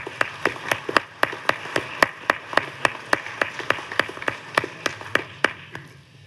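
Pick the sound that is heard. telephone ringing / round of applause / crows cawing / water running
round of applause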